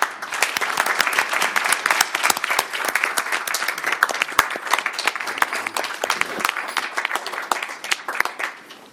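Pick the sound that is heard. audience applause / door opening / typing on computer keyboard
audience applause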